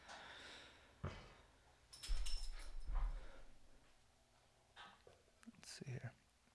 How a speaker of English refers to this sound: This fucking dog is just burping over here. It's gross.